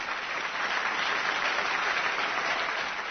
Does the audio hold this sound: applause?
yes